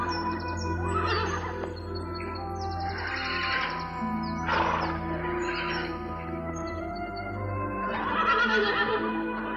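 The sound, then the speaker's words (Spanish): Several horses in a forest clearing neigh and whinny in turn, loud, with a few long shrill calls spread across the moment and a low steady rumble underneath; no one speaks. “Llegan a un claro en el que hay varios caballos.”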